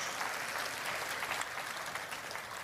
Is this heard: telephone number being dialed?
no